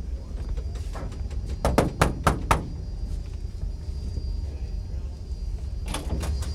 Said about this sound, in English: Knock on the door. Okay.